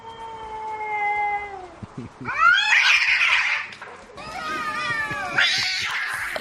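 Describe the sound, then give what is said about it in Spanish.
Two cats fighting loudly behind a journalist during a live interview she was conducting from her home office, drawn-out rising and falling yowls trading back and forth with harsh, spitting screeches in between, continuous for several seconds with no talking. “Eran sus dos gatos que se estaban dando una turra importante en pleno directo.”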